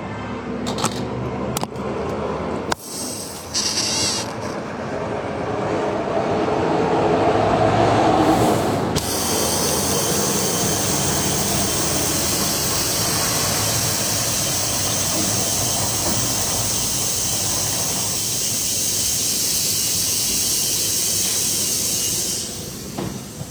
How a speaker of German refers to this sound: Ja, ich glaube, man hat eh nur den LKW im Hintergrund vorbeifahren gehört. Und ein bisschen das Knallen von dem Gas, von dem Druck, oder? Ich dachte, das war ein LKW. Ich dachte, das wäre das Gas.